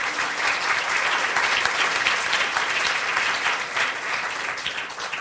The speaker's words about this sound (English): A round of applause for The Economist.